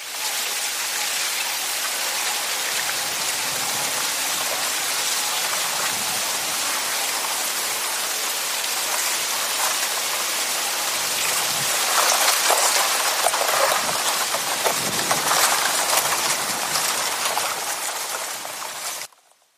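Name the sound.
leaves rustling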